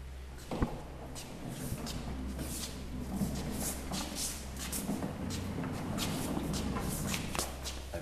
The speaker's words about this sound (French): Tiroir qui se cache en dessous de cette grande maquette.